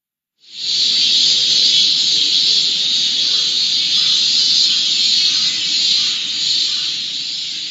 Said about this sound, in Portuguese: Quem visita o Japão pela primeira vez durante o verão quase sempre faz a mesma pergunta. Por que as cigarras fazem tanto barulho?